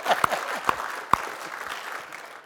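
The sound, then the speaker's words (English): An audience at a church service breaks into steady applause for the time young people devoted to preparing to decide whether to trust in and follow Jesus: a dense patter of many hands clapping with a few sharp, louder claps standing out, sustained at even volume throughout. “So we applaud the time they have devoted to this, don't we?”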